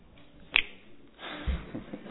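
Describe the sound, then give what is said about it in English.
One sharp, crisp finger snap cracks out, followed by a low, muffled rumble of background noise with a few soft thumps. “I can't twinkle my eye, so I snap my fingers.”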